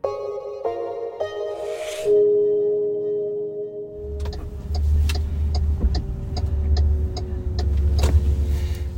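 A car interior with a steady engine hum that deepens into a strong low rumble as the vehicle gets moving, with faint clicks and rattles over the drone and no talking.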